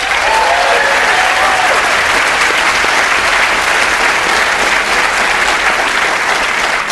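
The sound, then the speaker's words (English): The studio audience of the radio show Wait Wait... Don't Tell Me applauds steadily for several seconds, welcoming tightrope walker Nick Wallenda, a dense, even wash of clapping that stays loud throughout with no one speaking over it. “I was thinking there were easier ways to get a round of applause.”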